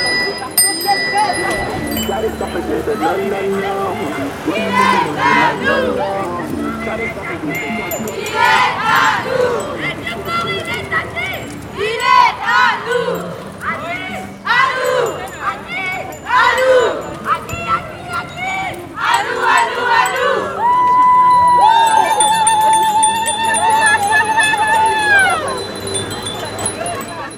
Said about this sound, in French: c'est qu'on organise un parcours à vélo en mixité choisie. Donc là, par exemple, on est parti du Courjus, on est passé par le Vieux-Port, on a fait toute la Corniche avec des cris, des chants, des rires, et c'était assez fou.